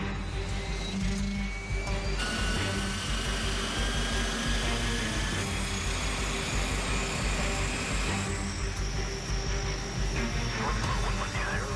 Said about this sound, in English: The Electra finally taxis away toward the runway, loaded with presents for kids up the Mackenzie Valley.